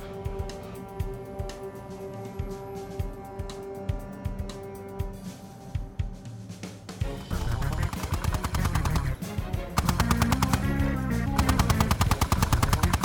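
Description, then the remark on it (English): Rapid, relentless machine gun fire from a tripod-mounted gun on the back hatch of a vehicle, shooting at pursuers, rattles over a steady droning hum, the bursts growing louder and denser about halfway through and again near the end. No one speaks. “They'll come up on us and I'll shoot the bastards.”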